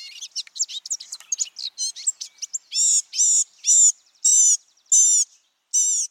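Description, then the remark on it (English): A male blue-gray gnatcatcher's thin, squeaky song, which can include mimicry of other birds: a rapid jumble of high chirps and warbles, then a string of six buzzy, evenly spaced notes, clear with no other sounds. “In the course of a male's long, squeaky song, he may sing samples of jays, tanagers, nuthatches, warblers, and many other birds he's heard.”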